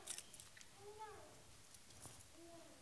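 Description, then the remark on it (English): A few light metallic clinks and jangles of an old set of single-row car keys being lifted out of a small box kept in a junk drawer, with faint murmuring in the background. “I've got a little tiny box in my junk drawer that I keep special things. And I can't just pull the one set out naturally.”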